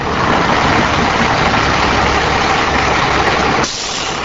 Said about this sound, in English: Many truckers say they need to keep their diesel engine idling. The truckers say the large engine powers various accessories on the vehicle, or they want to protect the engine during cold weather.